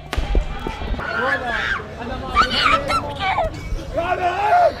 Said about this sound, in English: right at the front of the protest next to where the police were behind a barrier and in riot gear, and they started firing tear gas and rubber bullets and water cannons into the crowd. We were there and I started to record what was happening.